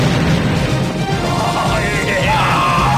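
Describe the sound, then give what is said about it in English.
A loud, sustained explosion effect: a thick, rumbling roar with crackling debris that stays at full force for the whole three seconds, with faint shrill streaks riding on top. “Another explosion.”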